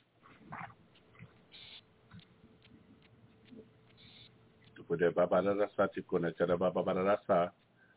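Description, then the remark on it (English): During a deliverance prayer commanding spirits of anger in the name of Jesus Christ of Nazareth, after several seconds of faint low rustling, a person lets out a loud, rough, guttural growl in a series of voiced bursts lasting about two and a half seconds. “No growling is permitted by order of Jesus Christ of Nazareth.”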